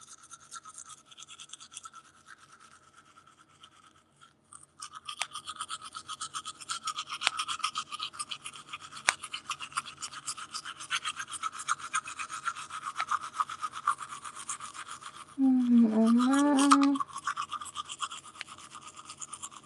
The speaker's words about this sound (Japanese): ちなみに今歯磨きをしています。